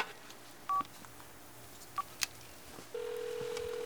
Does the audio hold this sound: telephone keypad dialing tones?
yes